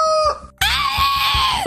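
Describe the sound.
A rooster crows loudly: a brief opening note, a split-second pause, then a long, strained, harmonically rich crow that holds steady and cuts off abruptly.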